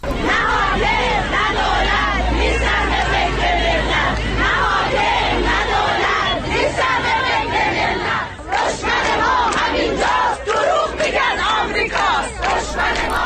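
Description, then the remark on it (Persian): Retired teachers gathered on a Thursday morning in front of the provincial Education Department in Isfahan, Iran, chant protest slogans about their poor living conditions, in loud, continuous unison, many voices rising and falling in steady rhythmic waves with a brief dip near the end. “شعارهای اعتراضی فرهنگیان در اصفهان هم جنبه صنفی داشت و هم سیاسی.”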